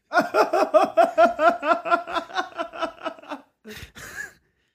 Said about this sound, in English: I heard his Adam's apple rattling around his fucking esophagus gasping for air. Bitch! I was like, oh my God, he's drowning.